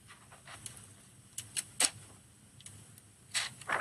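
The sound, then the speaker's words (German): A 'hands on paper' sound played from a sleep app: soft, dry scratching and rustling as hands rub over paper, coming in a handful of brief irregular strokes with a few sharper swishes, fairly quiet and with no talking. “Mach mal Hände auf Papier.”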